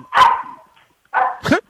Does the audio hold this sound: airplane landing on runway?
no